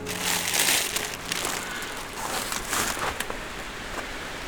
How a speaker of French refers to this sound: Pour autant, la forêt mixte nous accueille. Petite clairière au milieu des arbres et du ruisseau qui s'écoule en contrebas.